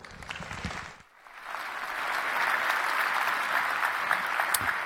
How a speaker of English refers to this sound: Please give Samuel a warm round of applause.